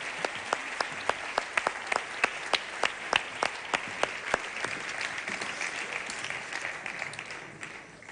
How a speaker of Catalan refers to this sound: D'acord, ja podeu aplaudir. Ara ja sí.